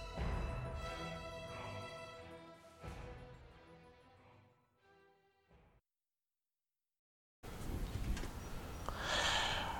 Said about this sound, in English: And the sniff. I gotta blow my nose.